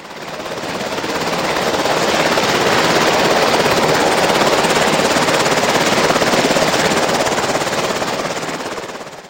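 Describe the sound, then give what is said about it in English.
A loud helicopter with steady, rapid rotor chop swells in, holds overhead, then eases slightly as it begins to pull away, flying off. No voices. “And he unfortunately didn't get to see our friend get in the helicopter and had to just watch him fly away as his helicopter took him back home.”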